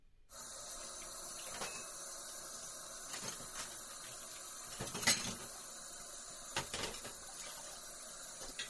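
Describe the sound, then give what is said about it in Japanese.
Dishes and cutlery clatter intermittently over a steady hiss of running water, with several sharper clinks, as someone tidies up and washes up at a sink after a meal. “その間に片付けちゃうからさ。”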